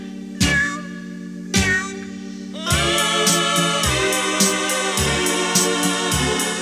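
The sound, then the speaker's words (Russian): A cat meows twice, two short wavering cries about a second apart, then a bright, steady rhythmic melody starts and continues with a regular beat. No one speaks. “Почем, кисонька, ты плачешь?”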